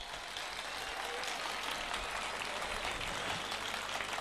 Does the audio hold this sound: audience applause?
yes